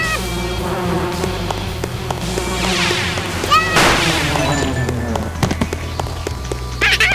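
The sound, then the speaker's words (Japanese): A synthetic, video-game-style bee buzz from a bee in a video game that dies drones steadily under a busy mix of game effects, with sharp crash-like bursts and chiming tones cutting in at moderate loudness. “あそこにいる蜂もなんか死んだ。”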